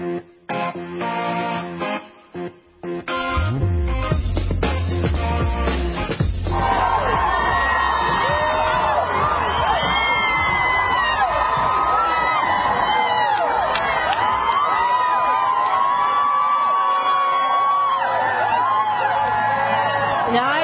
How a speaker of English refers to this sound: But that's a crowd in New Orleans celebrating the return of their heroes, the Saints, as they beat, some would say, a lot of odds and ended up winning the Super Bowl.